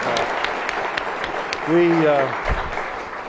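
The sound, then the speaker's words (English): A crowd applauds Bob Schieffer steadily, a dense wash of clapping with a few sharper claps, while one voice briefly rises above it partway through. “I mean, he deserves a round of applause.”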